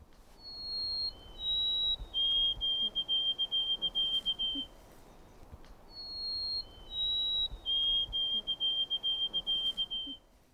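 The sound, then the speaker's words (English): A white-throated sparrow sings two songs of thin, pure whistles with a two-note ending replacing the older Canada, Canada, Canada pattern: a few high held notes stepping slightly downward, then a quick run of repeated two-note phrases, over a steady low background hiss. “Something seems to have happened to our Canada, Canada, Canada being replaced with a two-note ending, somewhat like na-da, na-da, da-na, da-da.”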